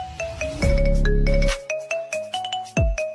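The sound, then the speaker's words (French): A phone ringtone set to a chosen song plays: bright, plucky notes in a steady rhythm over a brief sustained bass chord, loud, with no voices. “Voici comment changer la sonnerie de votre téléphone par une musique que vous aimez. Comme ça.”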